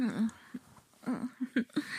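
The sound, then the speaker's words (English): A soft, drawn-out yawn with a groaning voiced tone that rises and falls, followed by a few shorter breathy murmurs as it trails off, quiet. “excuse my yawns.”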